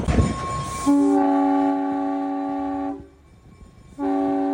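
A train rumbles along the tracks as its horn sounds a long, loud blast, falls silent briefly, then blares again, with steady rolling noise underneath and no talking.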